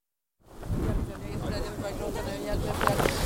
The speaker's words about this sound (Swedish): Kom närmare. Det blåser lite åt fel håll. Det blir inte så romantiskt om jag måste vråla ut allting.